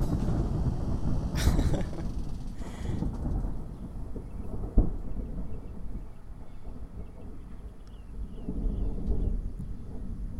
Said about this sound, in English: Wait till that thunder stops.